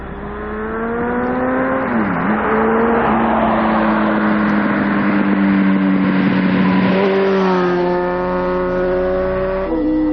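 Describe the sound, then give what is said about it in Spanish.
Vehicles speed by on a rural regional road where the speed limit is 90, a loud, steady engine roar filling the whole stretch, the droning pitch dipping and shifting several times as each one passes. No voices. “Es una carretera comarcal, es una carretera comarcal donde se puede correr a 90.”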